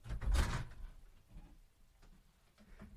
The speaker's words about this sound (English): I'll lock the door now.